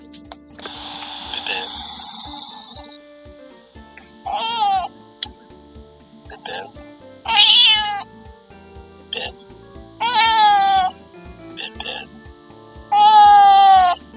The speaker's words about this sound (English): The cats do want to give me fuzzy greetings from Lydia and...